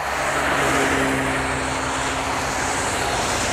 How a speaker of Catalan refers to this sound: Sí, són cotxes en pluja, pots estar somiant, com que has estat conduint a la nit, inquiet, se't reprodueix i segueixes conduint allà amb molta gent, a l'aigua, i ja està.